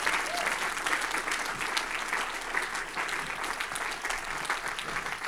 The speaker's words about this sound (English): Come on, if that's you, clap your hands right now.